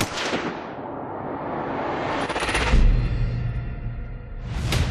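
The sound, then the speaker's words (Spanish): Heavy gunfire from rooftops at protesters during the Corpus Christi massacre in Mexico roars almost without pause, a dense rumbling barrage with louder bursts flaring at the start, midway and near the end, loud with no voices. “Los manifestantes comenzaron a caer derribados como muñecos de trapo, algunos muertos en el acto, otros descosidos a balazos.”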